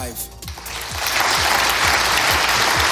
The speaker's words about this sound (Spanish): Ovación cerrada para Marco Rubio, el gran protagonista de este fin de semana.